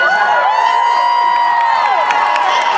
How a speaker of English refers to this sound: Start off by saying this is the biggest crowd Planet Comic Con has ever assembled in one room.